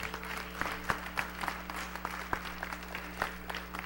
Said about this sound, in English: Come on, give the Lord a great big hand clap.